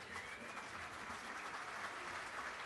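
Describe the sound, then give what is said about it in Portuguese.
An award ceremony audience claps steadily as the mayor of Palmeira das Missões, Evandro Luiz Massen, is called to the stage: a dense, continuous wash of hand claps holding an even level for the whole stretch with no voices over it. “Senhoras e senhores, este homem tem que subir aqui e ser recebido com calorosa salva de palmas.”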